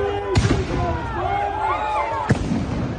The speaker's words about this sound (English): Fireworks were shot off as part of it.